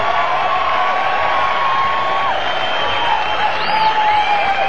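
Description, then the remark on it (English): Steady, loud crowd applause for a band at the fourth annual Long Beach Blues Festival runs unbroken for several seconds, with a few shrill whistles and scattered cheers rising over the clapping. “Applause for that great band.”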